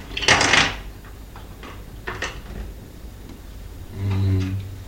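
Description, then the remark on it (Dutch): The small door of a toy swimming pool is opened and shut: a loud plastic clatter, a softer click a moment later, then a brief squeaky creak at the end, with no one talking. “Dit is de deur van het zwembad, ja.”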